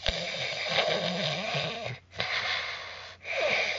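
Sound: imitated snoring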